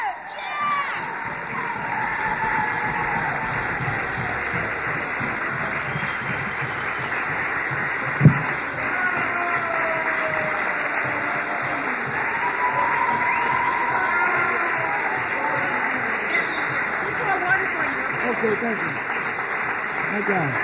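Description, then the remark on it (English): A crowd applauds steadily for about twenty seconds to welcome a speaker, a dense wash of clapping mixed with cheers and shouting voices, with one sharp louder bang partway through. “Y'all ain't got to clap.”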